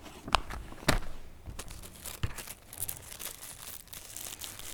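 Dry crinkling and rustling as loose tobacco is handled, with a few sharper crackles early on and a steady soft crunch throughout, no voices.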